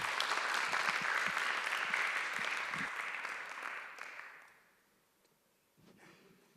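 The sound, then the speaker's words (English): Sustained applause from a large audience at CCC, welcoming the first speaker of the day, dense and steady clapping that fades away after about four seconds, followed by quiet with a faint rustle near the end. “Give a warm round of applause”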